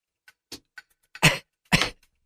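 a cough

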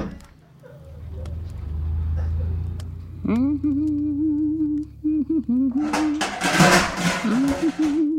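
car engine starting

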